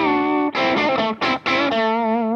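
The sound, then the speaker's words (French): An electric guitar played through a distortion pedal, with the overdrive pedal not engaged, has a gritty, distorted tone and plays a short phrase of ringing chords, with two brief breaks before a final sustained chord. It sounds fairly loud, with no voices. “Donc, le son d'origine, encore une fois.”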